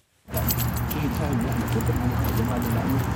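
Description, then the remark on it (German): Keys jingle on a man's waistband with each step as he walks across the grounds of the National Museum on the bank of the Blue Nile in Khartoum, Sudan, a steady metallic clinking over a busy outdoor background, with a voice faintly present. “Wenn er über das Gelände am Ufer des Blauen Nils läuft, klimpert es an seinem Hosenbund.”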